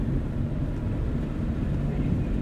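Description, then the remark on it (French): A steady, low engine rumble with wind-like noise fills the whole stretch, like a car heard from inside while driving around the island of Lampedusa. No clear voices come through. “Nous partons faire le tour de l'île en voiture pour voir les plus beaux lieux de l'île, qui surplombent la mer, et beaucoup de criques qu'on va essayer de voir d'en haut.”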